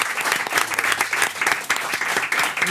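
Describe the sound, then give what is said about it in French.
Steady applause from a crowd, dense rapid clapping that stays loud and even throughout without pause. “Je n'étais pas habitué à attendre l'applaudissement.”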